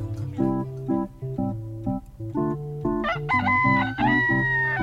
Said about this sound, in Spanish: ¿Cómo le gusta cantar al gallo?